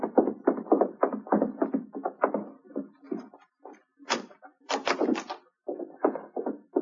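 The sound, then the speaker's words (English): A cabin door is unlocked and opened: a run of quick clunks and rattles, then a few sharper, brighter clatters of the latch and handle, with brief pauses between. “I'll unlock the door for you.”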